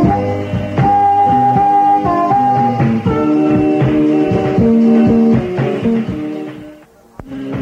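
A blues song plays with sustained harmonica-like reedy tones over a steady, rhythmic band accompaniment, loud and close, fading near the end.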